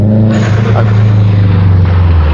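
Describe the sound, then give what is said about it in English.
A loud car engine roars as the car drives around a neighborhood, a deep steady drone with a brief shift in pitch as it revs through a gear change, filling the whole moment without pause. “that is the stupidest sounding car I've ever heard.”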